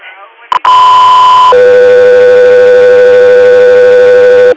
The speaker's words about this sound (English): Air 3 Air, standby for tones.